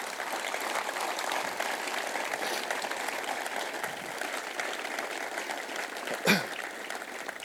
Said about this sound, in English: if we just please, a round of applause for Chief Officer Wire and the band